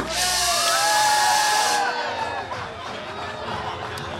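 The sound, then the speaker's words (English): A crowd bursts into loud applause and cheering for a couple of seconds at the Tuesday opening of the Rivers Sportsbook at Rivers Casino and Resort in Schenectady, New York, then the clapping fades into a busy hubbub of many voices talking at once. “With the approval of the New York Gaming Commission, the Rivers Sportsbook opened Tuesday with 6 betting windows, 14 kiosks, and plenty of applause.”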